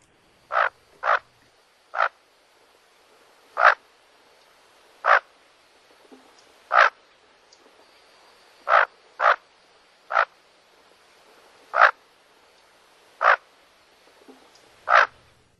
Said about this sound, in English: And I actually have audio of what a bufflehead sounds like. So why don't we take a quick listen to that?